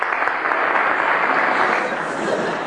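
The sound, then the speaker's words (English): A crowd claps steadily, a dense, even wash of many hands that holds at the same loudness for a few seconds without building or fading. “No, I have no need of your tedious applause.”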